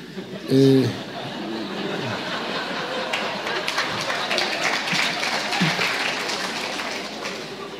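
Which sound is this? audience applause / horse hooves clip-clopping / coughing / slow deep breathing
audience applause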